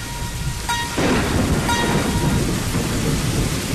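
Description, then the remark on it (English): Steady rain hisses continuously alongside a deep, rolling rumble of thunder, with a faint tonal ringing fading out in the first second. No one speaks. “We kind of lost our rain.”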